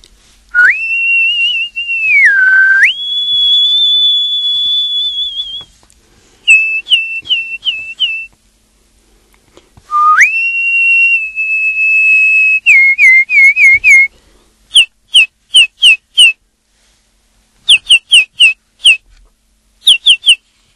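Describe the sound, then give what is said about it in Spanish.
Birds singing clearly, long steady whistled notes that step in pitch, followed by quick bursts of sharp repeated chirps separated by short pauses, with no voices. “Pues yo creo que como ejemplo vamos a escuchar a los pájaros, a lo que piensan y cómo cantan los pájaros.”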